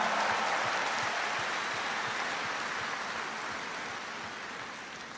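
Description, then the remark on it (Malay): A large evening audience applauds the attending gymnastics team members who won gold medals, a dense wash of clapping that stays loud and even for several seconds before easing off slightly at the end. No one speaks over it. “Berikan tepukan.”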